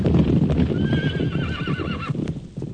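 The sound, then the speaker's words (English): Horse hooves clip-clop steadily on a street while a horse lets out a wavering, high whinny partway through; no one speaks. “I feel more like a rustler than a cop.”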